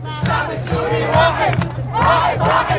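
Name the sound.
crowd chanting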